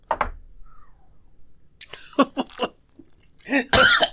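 A dry heave after drinking tequila: a brief guttural gag, a short quiet pause, then a cluster of harsh, choppy retching bursts that ends in a loud, rasping heave. No one speaks.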